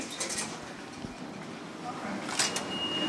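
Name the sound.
subway train ride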